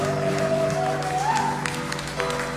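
A large crowd claps steadily in a dense, continuous wash of applause, applauding Jesus in honor of him, with sustained musical tones ringing underneath and a few sharper claps standing out.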